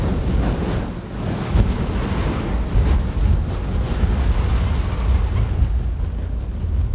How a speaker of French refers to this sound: Dans la quatrième vallée, la vallée de l'éphémère, souffle un vent glacial. Il ravage tout sur son passage.